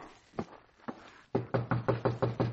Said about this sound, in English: Well, you better knock.